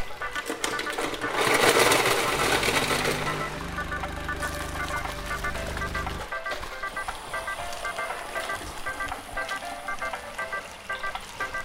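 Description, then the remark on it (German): A motorized blender mixing a cocktail whirs loudly, first a rough grinding burst, then a steady low humming drone that cuts off abruptly, followed by lighter clinking and rustling noise. “Apropos gönnen, lässt du mir bitte gerade noch mal einen Cocktail mixen, bevor du dich wieder hinlegst?”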